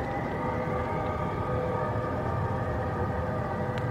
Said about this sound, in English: I'll wait for the train.